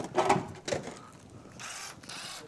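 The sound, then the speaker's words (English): A small impact drill whirs in two short bursts, followed by softer mechanical rattling and a duller hiss of motor noise. “Little impact drill.”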